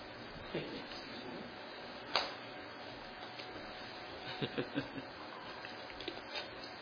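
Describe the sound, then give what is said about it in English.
A glass of water is picked up with a single sharp clink, then a few soft gulps follow as someone drinks. It's quiet, with faint handling noises and no talking. “Get a drink of water.”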